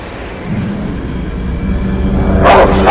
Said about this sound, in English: In front of him, a huge black dog looms out of the bushes.